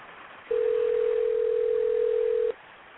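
A steady, loud telephone dial tone holds one unbroken mid pitch for about two seconds, then cuts off abruptly, with a faint hiss of background noise around it and no talking.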